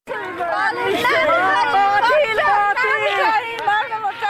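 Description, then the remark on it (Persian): A crowd of mourners, relatives of people shot by firing squad three days earlier in Ghor province, shouting in protest and demanding justice. Many raised voices overlap in a loud, continuous clamor of cries and calls with no pauses. “اینها فریادهای کسانی است که سه روز قبل عزیزانشان را در حالی از دست دادند که مصروف پیدا کردن لقمه نان برای فامیل هایشان بودند.”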